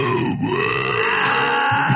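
A baby lets out a long, strained, grunting burp lasting about two seconds, loud, with no one talking, between feedings as its mother pats it on the back.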